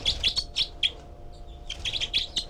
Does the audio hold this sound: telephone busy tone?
no